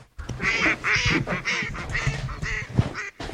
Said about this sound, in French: où il va peut-être y avoir un vol de canard entre temps.